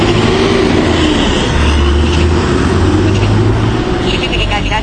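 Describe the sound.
A city bus pulls in, its heavy engine rumbling in a steady low drone over dense street noise, with faint voices murmuring in the background.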